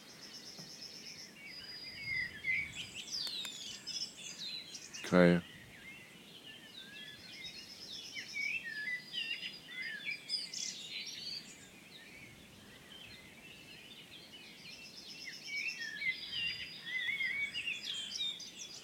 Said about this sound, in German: Kohlmeise permanent. Amsel singt auch noch im Hintergrund.